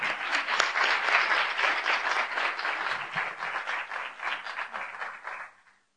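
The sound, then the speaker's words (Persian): A crowd bursts into sustained applause, dense clapping from many hands at steady loudness for several seconds before quickly tapering off at the end. “یه تشویق به افتخار بچه‌های شهر راست و به افتخار خودتون.”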